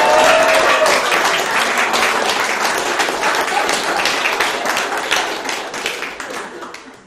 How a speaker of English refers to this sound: Thank you. A big round of applause.